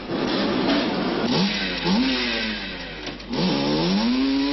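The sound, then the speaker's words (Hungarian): A 250cc, 16-horsepower Pannónia motorcycle engine from Hungary revs up several times, its pitch sweeping upward with each twist of the throttle, loud, with a steady mechanical rattle underneath and no voices. “A 250 köbcentis 16 lóerős gépekből évi 30 ezer darab készül.”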